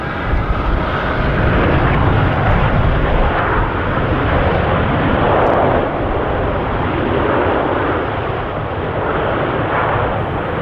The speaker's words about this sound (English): Have you ever been on a plane before? You must be familiar with that sound.